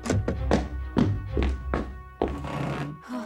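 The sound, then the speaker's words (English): A boy drops heavily into a seat at his school desk after running to school: a quick run of dull thumps and knocks, then a longer rustling, scraping shuffle as he settles in. “ran as fast as he could to the school, bolted inside the doors, and plopped down at his desk.”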